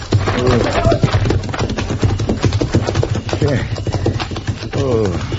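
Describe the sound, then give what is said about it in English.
Horses' hooves clip-clop in a quick, steady rhythm as the horses are taken out, continuing under people talking throughout. “saca los caballos. Apúrate, sal de aquí enseguida.”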